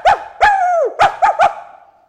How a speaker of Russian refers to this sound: А Кузя лаял и путался под ногами.